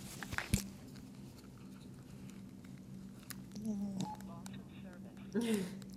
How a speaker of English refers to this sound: I think your phone is saying something to you. It's saying Verizon Wireless something.